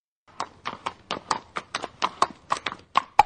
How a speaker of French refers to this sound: Ce pas de cheval, c'est celui de Gold, un percheron de 15 ans qui pèse près d'une tonne et qui chaque mercredi arpente le bourg de la Selle-Cranaise, une commune de 930 habitants dans le sud de la Mayenne.